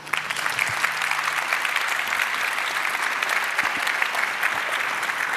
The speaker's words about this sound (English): And yeah, please welcome them too with a big applause.